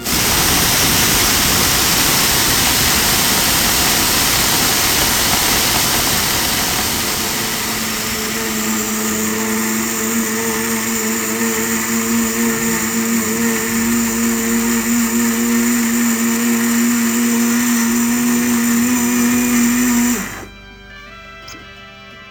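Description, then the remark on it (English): A loud Blendtec blender, run on its ice crush button, grinds 5,386 carats of cubic zirconia stones with a harsh, rattling roar for several seconds, then settles into a steady high motor whine before cutting off abruptly. No one speaks. “Rappers refer to diamonds as ice, so I'm going to push the ice crush button.”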